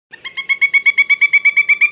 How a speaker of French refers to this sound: De la taille d'une corneille, le grand pic est noir et blanc et porte un très chic chapeau rouge. Adapté à l'hiver, il reste au nord et se nourrit d'insectes en creusant des trous dans les arbres.